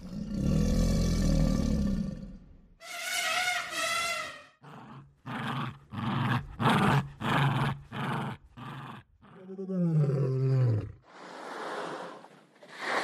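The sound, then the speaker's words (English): A rapid sequence of separate animal sounds with no talking: a Jack Russell terrier's growl, a lion's roar, the breathy whoosh of a whale's blowhole and crocodile rumbles, each loud. “So the sound designer mentioned a baby elephant, a Jack Russell terrier growl, a lion, a whale blowhole, like crocodiles. and so here's not directly from the source, but here's kind of a rapid fire of those sounds.”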